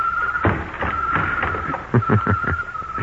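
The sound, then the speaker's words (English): A door is shut, with a series of clunks and knocks from the latch and frame, while a steady high drone of crickets continues in the background. No one speaks. “Let me close the door.”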